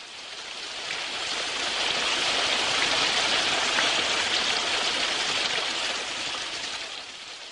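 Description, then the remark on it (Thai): Heavy morning rain pours down steadily in a dense, continuous hiss, swelling slightly in the middle and easing a little toward the end, with no voices. “วันหนึ่งที่จะเป็นเหตุให้เกิดเรื่องใหญ่คือฝนตกหนักแต่เช้ามันเทลงมาเหมือนแกล้งพวกเรา”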